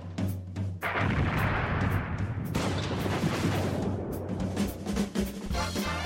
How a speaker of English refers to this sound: It's after midnight here in London. People are dancing on the rooftop and fireworks are exploding in all directions.